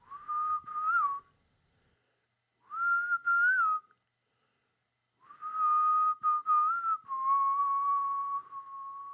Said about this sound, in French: Enregistrer le son caractéristique de son futur défunt. Par exemple, son sifflement.